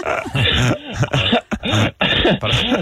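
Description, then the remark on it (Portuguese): A strange, rasping cough comes in several loud bursts over a few seconds, each harsh and somewhat voiced, with brief gaps between them and no talking. “Desculpa, aqui uma tosse esquisita.”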